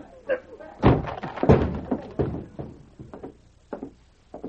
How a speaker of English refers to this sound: I'm going to break this lock.